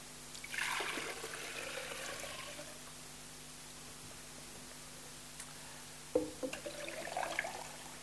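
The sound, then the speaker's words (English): Water pours into a jug in two short bursts, a splashing gush near the start and another toward the end, with a quiet steady hum in between; the jug ends up full to the brim. “If I empty all these things out, and I hope there's going to be enough water.”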